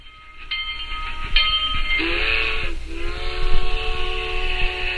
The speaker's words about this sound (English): The sound of an approaching train just two blocks outside my window takes me back to Arcadia Circle on the northwest side of Atlanta, Georgia, where many black people lived.